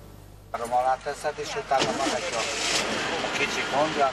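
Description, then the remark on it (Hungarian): The engine of a nearly 60-year-old Volkswagen Beetle at a classic car meeting in the streets of Satu Mare runs steadily with a busy, whirring rattle after a sudden start, while people talk over it. “Ez a bogár már csak nem 60 éves, és a tulajdonosa szerint olyan a hangja, mint 200 varrógépnek együttvéve, de mégis jobban megy, mint újkorában.”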